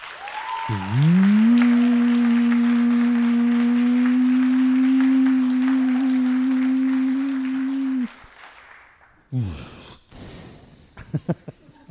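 Audience applause crackles steadily beneath a loud, long droning tone that holds for several seconds, then cuts off, leaving a few ragged bursts of clapping and noise.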